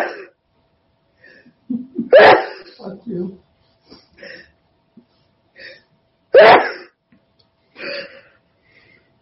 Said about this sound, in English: I sneeze, therefore I is. Might have a coconut allergy there.